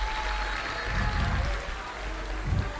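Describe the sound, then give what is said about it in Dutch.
A large audience at a concert applauds steadily for the evening's technical crew, a dense wash of clapping filling the whole moment, with a few low thumps or whoops swelling briefly within it. “Voor ik verder ga wil ik eventjes een geweldig applaus vragen voor de techniek van vanavond.”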